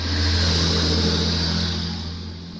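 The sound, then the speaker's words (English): A heavy truck engine rumbles steadily outdoors in a residential area with a low droning tone and broad road noise, loud at first and gradually easing off as it moves past. No voices. “Those trucks just shouldn't go here.”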